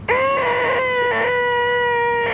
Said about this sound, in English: It sounds like a CRT monitor or 20 CRT monitors doing that little squeal that you need to like turn them off and on to get rid of. Yeah, awful like sound.